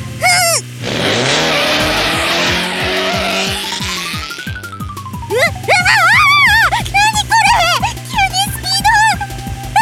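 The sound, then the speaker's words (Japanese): A race car engine roars and climbs steeply in pitch as it accelerates hard, hitting top speed at once and pulling far ahead, for a few seconds, then excited voices talk over the fading engine drone. “いきなり最高速、瞬く間にぶっちぎった”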